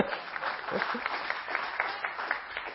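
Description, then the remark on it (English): An audience claps steadily for a volunteer who has come up to help, a dense patter of many hands, fairly quiet and even in level throughout without a clear peak or fade. “Yeah, you can give them a clap.”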